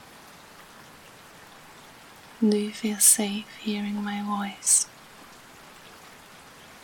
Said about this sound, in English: Just let go of everything and focus on the rain.